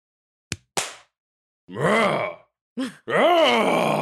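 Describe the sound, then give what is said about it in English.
Two sharp hand claps in quick succession, followed by loud, drawn-out groaning and moaning vocal sounds. “A blessed top of the minute clap.”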